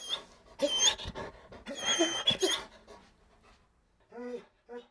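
A dog pants in quick, breathy bursts, followed by a couple of short, high whimpering whines near the end.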